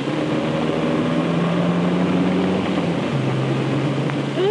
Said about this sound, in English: Drove off just like James Bond then, Fred. Listen to that engine.